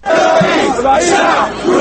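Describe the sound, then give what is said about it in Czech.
A large crowd of protesters in Cairo, Egypt, chants loudly in unison that the people want the president to fall, a dense roar of many raised voices that stays strong and steady throughout, with the rhythm of shouted phrases rising and falling. “Narod traži da predsjednik padne, uzvikuju demonstranti u Kairu koje ste upravo čuli.”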